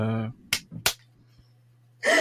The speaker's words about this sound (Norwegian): Der, så dere som hører på innbilder en sånn knaselyd, men jeg klapper.